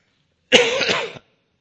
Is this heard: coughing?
yes